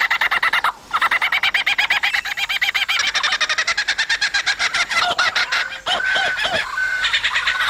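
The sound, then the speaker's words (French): A lyrebird pours out a rapid, nonstop stream of birdsong mimicking other bird species, loud, shifting between fast repeated chirps, rattling trills and swooping whistled notes, with no one speaking. “Il copie, entre autres, le chant d'une vingtaine d'espèces d'oiseaux.”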